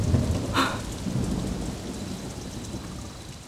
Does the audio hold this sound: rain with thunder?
yes